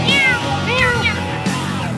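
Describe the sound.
A person imitates a cat's meow, producing a couple of drawn-out, rising-and-falling mews, fairly loud, with no other talking.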